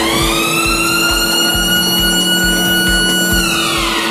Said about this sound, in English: Okay, what's next? How do we get the ride going? We're gonna press the buzzer just to make sure everyone's aware that the ride's gonna start.